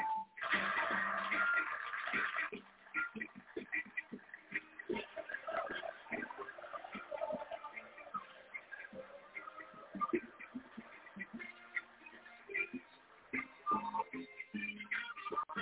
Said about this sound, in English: Even the cows are here. That's right. The cows came in for this show.